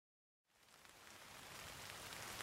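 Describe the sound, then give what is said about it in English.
Steady rain begins after a brief silence, a dense hiss of falling drops that swells slightly and continues evenly, with no voices. “Oh no, it's raining.”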